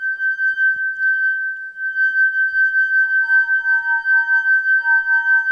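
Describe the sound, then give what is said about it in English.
Water-filled hand-blown crystal glasses made at the Lennox plant in Mount Pleasant sing with a sustained, pure, high ringing tone that wavers steadily. Partway through, a second, lower glass tone joins, and the two hum together with no talking. “Then, like kids at an upscale restaurant, they fill several of the glasses with water and make them sing.”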